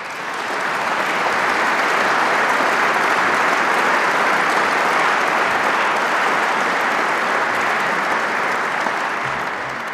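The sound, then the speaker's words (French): Sustained applause from the audience for the prize laureates standing at an Institut de France academy awards ceremony. It is a dense, steady wash of many hands clapping at an even loudness for the full ten seconds, with no voices standing out. “Je prie ces lauréats de se lever et vous prie de les applaudir.”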